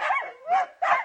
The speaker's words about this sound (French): Oh bien sûr, c'est le chien. Oui, c'est mon animal préféré.